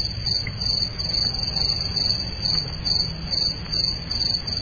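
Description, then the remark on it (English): A steady chorus of crickets chirps in a continuous, pulsing trill with no one speaking, moderately loud and evenly sustained throughout, like a quiet night outdoors. “I'd like to compliment the Crickets again, though. They are 2 for 2, doing a fine job today.”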